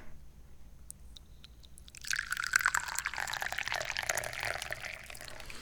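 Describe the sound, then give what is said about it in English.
A few light clicks, then Gingin May tea is poured steadily into a cup for several seconds, a continuous trickling splash with no one speaking. “Well, I think it's time to pour some tea.”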